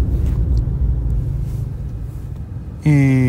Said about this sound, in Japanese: まもなく福島県いわき市の実家に到着する手前なんですけれども、車のスピードを緩めて路肩に停車しました。止めた場所には電光掲示板のような形で、空間線量計が設置されているということで車を止めました。